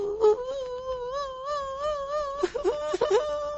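A child cries in a long, wavering wail, then breaks into short, choppy sobs and whimpers, fairly loud, with no talking.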